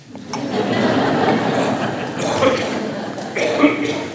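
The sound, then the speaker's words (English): Tea is poured steadily and mindfully into a glass for a few seconds, a continuous trickling and splashing that swells slightly toward the end, with no one speaking. “I'm pouring my cloud.”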